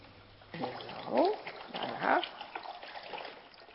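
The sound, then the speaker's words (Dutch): Water pours into a bowl for about three seconds, a steady splashing stream with a couple of brief rising, gurgling tones as the level fills. “Ik doe water in een kam.”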